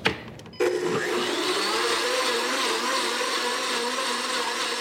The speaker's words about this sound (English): Add this gradually with the blender on. Don't be concerned if chocolate flies all over your kitchen. That's normal.